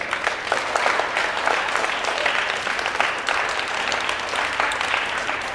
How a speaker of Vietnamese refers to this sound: Nếu các con thấy việc đó là làm được và xứng đáng làm đó, thì hãy cho một tràng vỗ tay thật lớn nào.